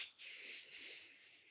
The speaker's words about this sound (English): Sometimes that's seven rounds of this, but it's the military breathing technique. So I breathe in through my nose for a count of four.